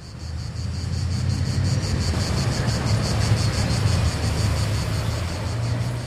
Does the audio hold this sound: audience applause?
no